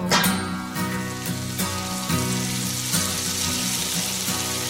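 Food sizzles and crackles in a frying pan, a steady, fairly loud hiss that runs the whole time over a rhythmic, tonal musical pulse, with no voices.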